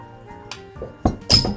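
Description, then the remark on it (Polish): A beer bottle with a Czech brewery logo is opened with an opener: a few light metallic clinks, then a sharp cap pop followed by a brief fizzing hiss, with no talking. “nie umie otwierać piw, w dodatku się oblał.”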